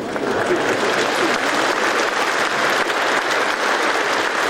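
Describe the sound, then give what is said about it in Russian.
Steady, dense audience applause fills the whole stretch, many hands clapping at an even loudness with no break and no voices standing out above it. “У этих аплодисментов глубокий исторический смысл.”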